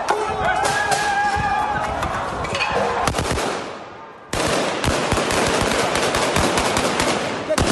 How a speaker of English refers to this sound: Youths in various parts of the city blocked roads and set tires alight. Police responded with gunfire and tear gas.